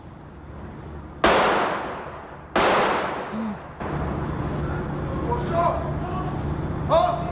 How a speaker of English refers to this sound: A video has surfaced on YouTube that shows a man in the Pilsen neighborhood opening fire on a passing car.